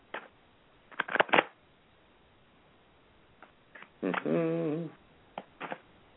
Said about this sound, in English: Here's the shuffle. Tell me when to stop shuffling because I'm going to shuffle the deck. Okay. I'm shuffling now. Go ahead and tell me when to stop.